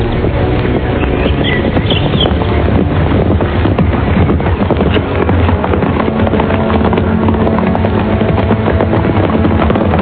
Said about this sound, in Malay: Saat itulah, dari ujung jalan, tampak rombongan orang-orang berkuda.